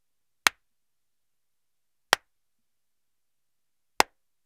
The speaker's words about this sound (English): I record from a home-built broadcast-ready studio with an Audio-Technica AT2035 microphone and a Scarlett Focusrite 2i2 third-generation audio interface. And now, here are some claps.